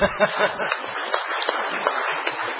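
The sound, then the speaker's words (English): A crowd at an Ordinary Council meeting applauds the former Mayor, Councillor Turner, in a steady, dense patter of many hands clapping at once, holding an even level for a couple of seconds, with a few louder claps near the start. “Now, give the former Mayor, Councillor Turner, a big round of applause.”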